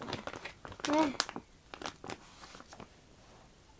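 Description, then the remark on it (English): Paper crinkles and rustles in short, irregular bursts throughout, with a brief vocal sound early on. “Get the paper.”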